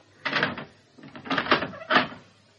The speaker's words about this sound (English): Really home. I'll lock the front door.